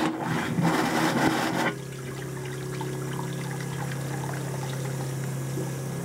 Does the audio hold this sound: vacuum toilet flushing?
yes